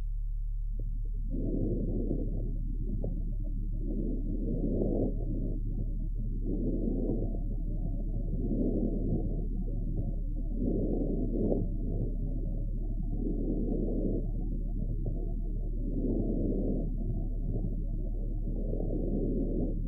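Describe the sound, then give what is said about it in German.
Intensified vesicular breath sounds from a horse, heard through a stethoscope and mainly present on inhalation: harsh, muffled whooshing breaths repeating in a steady rhythm about every second and a half over a constant low hum, with no talking. “Wesentlich häufiger ist bei Pferden, zum Beispiel infolge einer latenten chronischen Bronchitis, das verschärft vesikuläre Atemgeräusch hörbar.”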